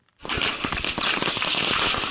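Rapid, continuous crackling bursts of gunfire during an Islamist attack in Burkina Faso, West Africa, sharp, dense and loud, with no speech over them.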